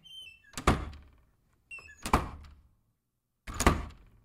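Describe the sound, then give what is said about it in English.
A door in a studio slams shut three times at steady intervals, each loud bang preceded by a brief latch rattle and followed by a short ringing decay. No one speaks. “It's the door slamming.”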